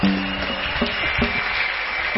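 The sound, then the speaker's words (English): A large church audience claps their hands for Jesus together in a dense, steady burst of applause that holds at an even loudness throughout, with a faint hum of voices or music underneath. “Church, clap your hands for Jesus.”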